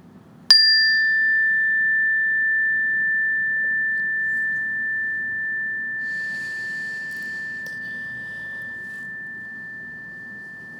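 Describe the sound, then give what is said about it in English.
A meditation bell is struck once to begin a guided breathing meditation, giving a bright, clear tone that rings on steadily and fades very slowly across the whole clip, with no one speaking. “And what I want to invite you to do is when I ring this meditation bell, just start off by taking a few breaths in and a few breaths out and then wait for further instructions.”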